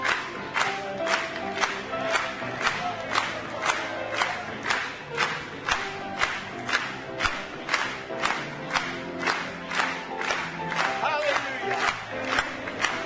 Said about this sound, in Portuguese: Aleluia! Batamos palmas para Ele.